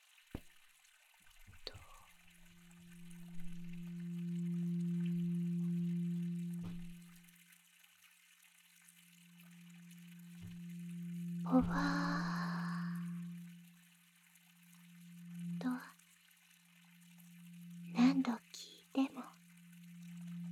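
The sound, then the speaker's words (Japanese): A struck bell hums with a low, steady ringing tone that swells and fades over several seconds, renewed by a few sharp strikes, with a cluster of quick taps near the end. “鐘を叩いて震えさせる。”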